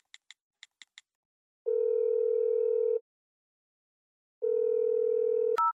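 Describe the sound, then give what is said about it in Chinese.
A few quick keypad beeps, then a telephone's steady tone sounds twice in long bursts separated by a pause while a call to the caller's mother is placed. Clear, with no talking. “那你等我，我给我妈打个电话，汇报一下。”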